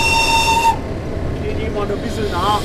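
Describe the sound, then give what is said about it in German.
A 70-year-old class 194 electric locomotive hauls a train past railway photographers over the Isar bridge in Munich with a steady low roar, the woman driving it sounding a shrill high warning whistle at first before it cuts off, leaving the heavy rolling noise of rail cars. “Die alte E-Lok, die da an ihnen vorbeifährt, zählt fraglos zu den Highlights.”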